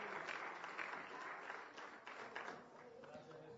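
An audience breaks into sustained applause, a dense, steady wash of many hands clapping at once, holding fairly even in loudness for a few seconds before easing slightly.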